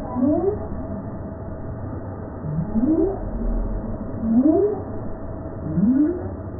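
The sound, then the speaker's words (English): A right whale calls four times in a row, each a short, low rising whoop that sweeps upward, spaced a second or two apart over a steady murky underwater hiss. “That is a right whale.”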